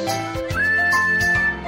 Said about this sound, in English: Here's some pod safe music for everyone. Nice.